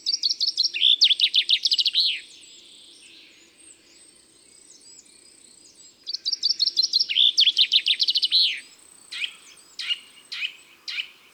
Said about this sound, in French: Le pinson des arbres est beaucoup plus sage, sa chanson est toujours la même.